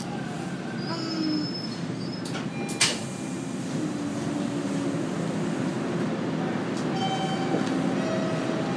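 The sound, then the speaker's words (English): Inside a moving train, brief electronic chime tones signalling that the doors are closing ring out over steady rumbling and squealing wheels, with a sharp clunk near the start and another short tone sequence toward the end. “There, the doors are closing. That's what that chime means.”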